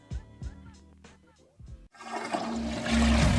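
toilet flushing

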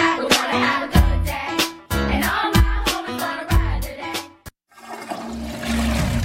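toilet flushing

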